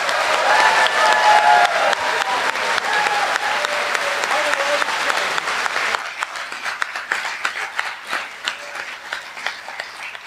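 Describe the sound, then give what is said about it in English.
A crowd claps in loud, dense applause for the sponsor Microsoft, with a few faint whistles or cheers, then the clapping thins abruptly into scattered, softer claps that trail on. “Can we have a huge round of applause for Microsoft?”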